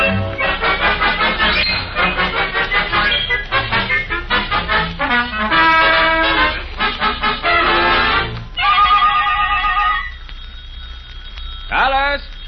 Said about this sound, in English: The telephone's ringing. Dear, you'll have to answer it.